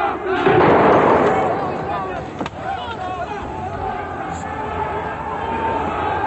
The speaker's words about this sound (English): Just after 10 o'clock this morning, around 70 anti-Gaddafi protesters were shouting slogans outside the building in St. James's Square. There was a sudden, short burst of automatic gunfire from inside.